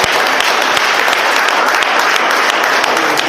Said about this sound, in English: Oh, give a mighty clap to Jesus.